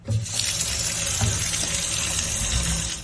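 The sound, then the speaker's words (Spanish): Water pours steadily from a tap set to cold in the old town, running hot enough to raise a thermometer to 40 degrees, a continuous rush and splash filling the whole moment with a broad hiss and low gurgling, with no voices. “En este vídeo que han publicado, el concejal José María Selles hace la prueba y graba cómo un termómetro bajo el agua asciende a los 40 grados a pesar de que el grifo esté en posición de frío.”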